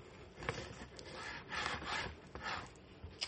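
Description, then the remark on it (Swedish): An unsharpened knife saws through a large roast, cutting it into pieces, in several rhythmic back-and-forth strokes, each a soft, rasping scrape with a faint grinding edge. No one speaks. “Så jag ska ta en kniv här.”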